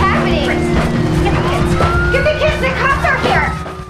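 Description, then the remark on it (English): Several police sirens wail and sweep up and down together as a fleet of squad cars arrives, loud, with indistinct voices and background commotion mixed underneath throughout. “They look out of the window as a fleet of squad cars arrive.”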